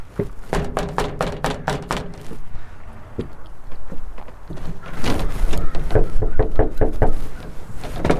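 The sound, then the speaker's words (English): Someone knocks on a house door in a quick run of sharp raps, pauses, then knocks again in a second, louder flurry. No voices, only faint background noise between the rounds. “No one answered the door at Stella's, so we decided to call Yvonne again.”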